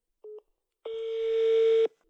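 A Swiss telephone beeps at one steady mid pitch: a short blip, a brief pause, then a longer sustained tone of about a second that gradually swells. No voices.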